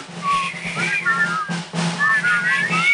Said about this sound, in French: Bon, écoutez, alors, faites la, on verra ce que ça va donner. Arrêtez. C'est épouvantable. Alors, ressifflez, alors, c'est meilleur.